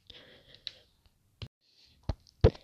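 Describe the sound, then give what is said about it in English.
Several sharp knocks, about four in all, landing at irregular intervals, loud, after a quiet stretch of faint rustling hiss, as a person knocks on a hard blue metal door. “I knocked on the hard metal blue door, and a scrawny old lady opens the door and looks at me with a blank face and tells me, "Get in."”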